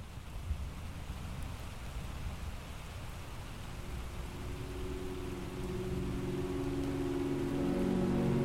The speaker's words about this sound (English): I have sat at my desk listening to the downpour, rain that sounded so regular and unhurried that it could last forever.